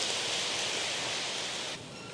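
A steady wash of clapping from a crowd, dense and even, holding at a constant level before thinning out abruptly near the end.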